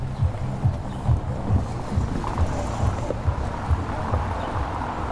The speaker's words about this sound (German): Ein Auto.